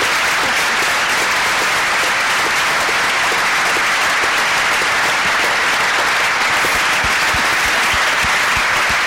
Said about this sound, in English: Paul Volcker has been such a good friend to the LSE, chaired this morning's meeting, chaired this one. Would you please give him a special round of applause?